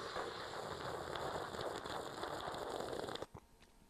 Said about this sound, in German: Achtung, dramatischer Zug aus der Kaffeetasse, Achtung.